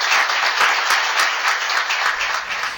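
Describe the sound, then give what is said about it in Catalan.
Sustained applause from a crowd at the Penya Espanyolista dinner, for the club's board of directors: dense and steady clapping that stays loud throughout with slight swells, no voices standing out. “Un gran aplaudiment per tots ells.”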